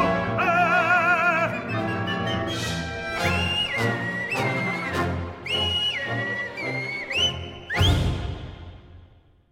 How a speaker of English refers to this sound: Oh, that whistling meanie Mephistopheles from Arrigo Boito's opera Mephistophele. That was … whistling and singing and overall being as rotten as possible.